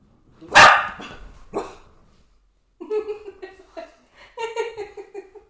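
animal, dog barking

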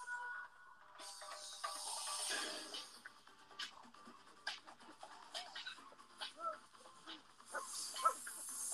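animal, snake hissing

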